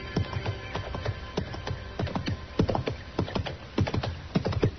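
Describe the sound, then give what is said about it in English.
Horse hooves clop along a trail in a steady, slightly uneven rhythm of sharp knocks, growing a little louder as they approach. No one speaks. “And just then I heard a horse coming along the trail and I stepped back and waited.”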